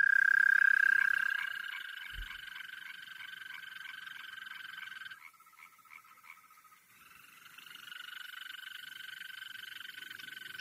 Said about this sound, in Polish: No to posłuchajmy, jak brzmi ropucha zielona.